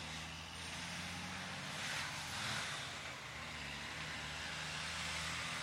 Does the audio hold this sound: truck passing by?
yes